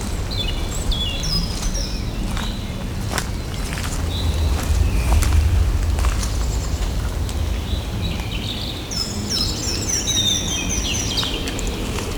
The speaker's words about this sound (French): Il y a toujours l'éclat de ces oiseaux. Une légère brise entre les arbres et les habitants cachés de ces lieux.